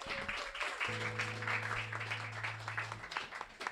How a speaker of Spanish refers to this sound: Gracias, un aplauso para ella.